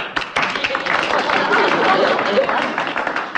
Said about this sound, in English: That's right. Applaud him. Applaud a totally defeatist speech.